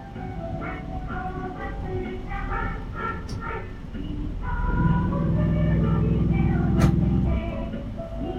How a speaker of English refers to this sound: Ah, the dulcet tones of the Haichiko bus, the little mini bus decorated like a dog that rides around Shibuya, gets you from and to the places where the metro doesn't go.